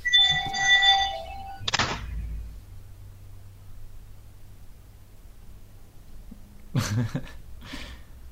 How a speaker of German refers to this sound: Der Wecker, das Handy oder keine Ahnung, was klingelt.